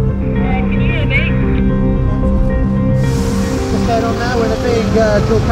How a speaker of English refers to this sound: Okay, right down there, behind these buses. Behind the buses. Traffic again.